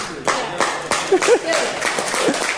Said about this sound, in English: Clap him. Honour him.